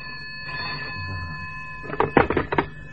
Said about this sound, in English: The phone, Tony. I heard.